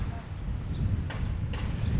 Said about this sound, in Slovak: Aha, toto je náš milovaný košický vetrík, ktorý práve počujete.